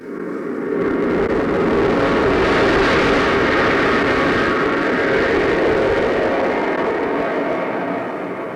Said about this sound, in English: In everyday life, I enjoy many sounds in God's world. I like to hear and watch a jet.